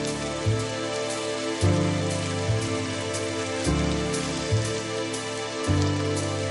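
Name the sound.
rain falling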